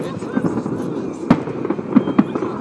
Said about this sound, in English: There you go, the fireworks now. Holy shit. So the fireworks going off from Calton Hill. And from the castle.